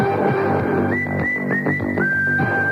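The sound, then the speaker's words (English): A short, bright whistled jingle in a radio advertisement for an appliance and electronics store rises and repeats in quick clear notes over a busy musical backing, ending on a long held whistle. “You'll walk away whistling.”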